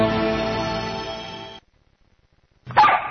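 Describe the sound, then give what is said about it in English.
A single sharp, loud dog bark rings out near the end, following a long sustained harmonic tone and a second of silence. No one speaks. “I guess I better let the dog in.”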